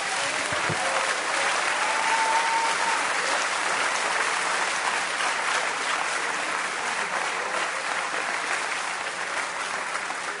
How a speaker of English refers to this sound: Now, come on, let's give him that Sunday night round of applause. Go ahead.